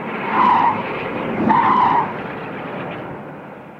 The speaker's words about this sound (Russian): Заскрежетало сцепление, дико взревел двигатель, сквозь кусты мелькнули красные и синие сигнальные огни, и патрульная машина, сорвавшись с места, бешено набирая скорость, понеслась к городу и исчезла за стеной.